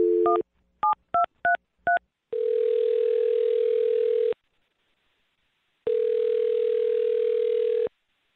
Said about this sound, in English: All right, here we go. I'm dialing the phone number.